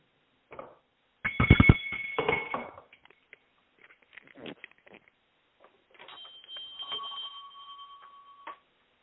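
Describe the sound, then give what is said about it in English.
A loud bell clangs and rings for a second or two, then quieter scattered knocks follow before a sustained, steady ringing tone hums for a few more seconds. Nobody speaks. “We were worried about the bell ringing because when we did two trial runs, we didn't do it so well.”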